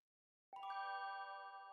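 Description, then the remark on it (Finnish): An announcement chime aboard a craft that has just landed on a planet's surface: a bright electronic chime rings out after a moment of silence, two quick tones blending into a sustained, shimmering harmonic ring that holds steady and fades only slightly. No one speaks. “Taas kuuluu ilmoitusääni.”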